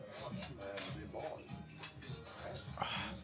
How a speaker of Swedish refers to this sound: Det kommer inte gå att lyfta mitt glas. Nej. Jag tror vi får så här luta oss fram till glaset och dricka så här, ja, sörpla lite med överläppen.